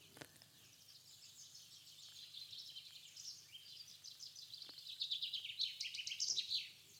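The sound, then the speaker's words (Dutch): A chaffinch sings a bright, high trill of rapid notes that grows louder and ends in a quick flourish, with no voices and only a faint low hum beneath. “En dan horen we de vinkenslag. Dat is de zang van onze vink.”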